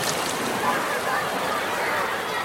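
A steady, fairly loud wash of sea and surf fills the scene on a beach in Brazil, with an indistinct murmur of many people bathing in the sea.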